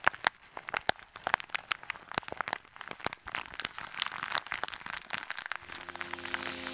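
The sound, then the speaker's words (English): Crisp crinkling made as an ASMR trigger, with dense, irregular crackles, like a wrapper or paper being scrunched; a soft sustained musical tone creeps in at the very end. “Chewing, scratching, crinkling,”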